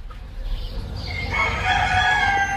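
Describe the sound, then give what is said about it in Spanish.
A rooster crows loudly with a long, rising cock-a-doodle-doo over low rumbling background noise, with another rooster crowing more faintly beforehand, at 6 a.m. behind farmyard walls in Cantabria, Spain. “Los gallos, de azas de cesto, en Cantabria, se replican y reafirman tras las tapias de los corrales, estirando el cuello.”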